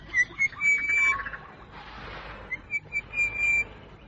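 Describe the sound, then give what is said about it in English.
An orange-breasted bushshrike sings a series of clear, whistled notes in short repeated bursts, fairly loud, over a soft background of other outdoor noise. “Listen to that bird. Listen to him. He sounds so important, as if he's the only one singing.”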